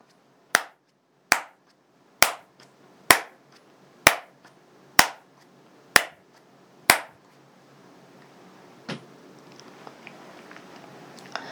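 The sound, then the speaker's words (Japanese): Eight sharp ritual hand claps after four bows during a prayer recitation ring out one by one at a slow, steady pace, crisp, followed by quiet with faint rustling. “四拝八拍手。”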